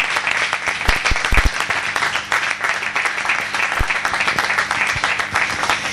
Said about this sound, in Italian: direi un bel applauso.